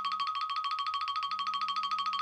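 cell phone ringing

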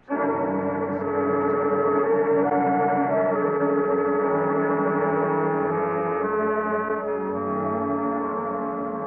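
bell ringing

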